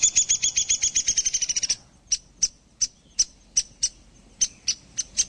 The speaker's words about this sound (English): But add a suet cake to your winter bird banquet, and you'll probably bring the downy woodpecker right up close.